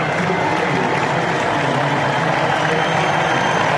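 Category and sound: crowd, crowd cheering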